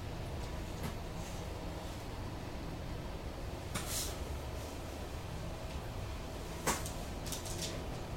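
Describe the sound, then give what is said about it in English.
A chair being turned around, with two short scraping, creaking bursts several seconds apart over a steady low hiss. Fairly quiet, with no one speaking. “And I'm going to turn my chair around to let you know that I don't mean you any harm.”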